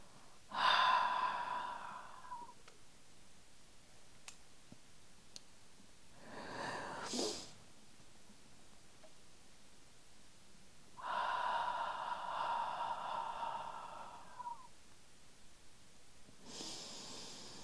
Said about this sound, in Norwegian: Gjerne pust inn med nesa. Og ut gjennom munnen.